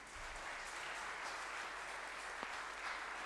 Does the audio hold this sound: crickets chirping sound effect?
no